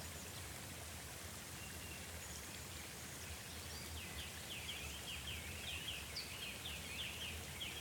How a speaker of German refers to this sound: Und wenn man genau gehört hat, dann hat man gehört, ein Bächli rauschen.